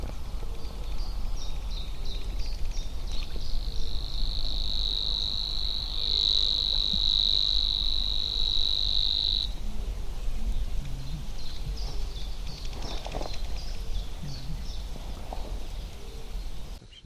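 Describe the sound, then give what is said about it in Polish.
A river warbler's buzzing song, a high, dry, insect-like reeling that holds steadily for about six seconds, set against a constant low rumble with faint scattered calls before and after. “Brzęczka brzmi jak elektromagnes, nie?”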